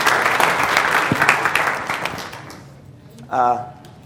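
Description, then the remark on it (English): An audience at Northside church applauds a guest speaker with dense, steady clapping that gradually fades away after a few seconds, followed by a brief voice speaking. “So let's give him a hand in our hearts as he speaks to us today.”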